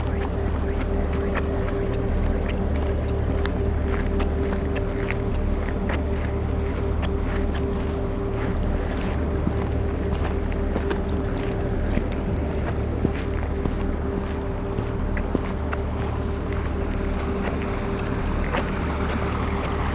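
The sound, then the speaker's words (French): Water streams and trickles all around a wide vehicle track in a steady, dense wash, with scattered drips and splashes popping through and a low rumble underneath. No one speaks. “Et tout autour de vous, l'eau ruisselle.”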